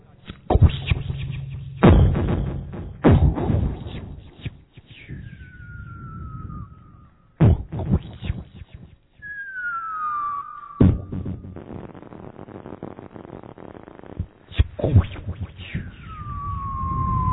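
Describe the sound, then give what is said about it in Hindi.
Fireworks and firecrackers go off in the sky in a series of loud, sharp bangs, with a few whistling rockets gliding downward in pitch between the blasts, crackling echoes trailing after. “फिर आकाश में आतिशबाजी चलती है, बम पटाखे।”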